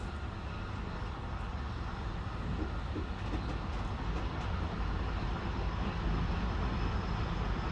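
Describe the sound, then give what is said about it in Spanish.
A night train rolls steadily through a station just after midnight, giving off a continuous, dense rumble with faint rattling from the cars. The noise holds at an even level throughout, with no voices. “Y a estas horas, el protagonismo es para los trenes de mercancías y los nocturnos como nosotros.”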